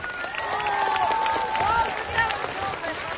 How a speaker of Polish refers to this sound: Ty jesteś? Ruszaj, do góry. Brawa dla niego.